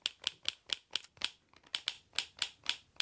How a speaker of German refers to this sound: Hier nochmal eine Schulranzenschnalle.